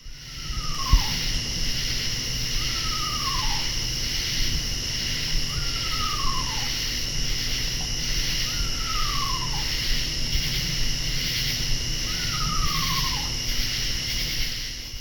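An eastern screech owl gives five descending, horse-like whinnies, evenly spaced about every three seconds, over a constant high buzz of katydids; recorded in Blacksburg, Virginia, about 10 p.m. on August 12, 2013.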